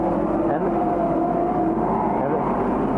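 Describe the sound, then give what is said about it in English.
Loud, continuous roar of race car engines as cars, among them car number 38 driven by Eli Vukovich, race by on a track, the droning pitch shifting slightly as cars pass, filling all three seconds without a break. “And there goes Bill Zering, and there goes car number 38, Eli Vukovich.”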